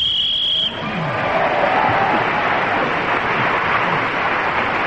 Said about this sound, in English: For the sake of our listeners, I must explain that extra loud cheer from the audience came for